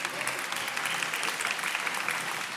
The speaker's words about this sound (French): Venez, on peut l'applaudir bien fort, merci.